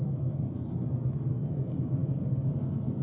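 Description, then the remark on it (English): A chase plane takes off, its engines producing a steady, deep roar with a dense low rumble that holds at an even loudness throughout, with no voices. “This is a chase plane taking off.”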